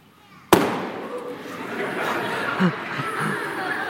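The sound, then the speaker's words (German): A balloon held over a flame bursts with a single sharp, loud bang that blows out the flame, followed by a steady murmur of voices and scattered soft chuckling. “Er platzt.”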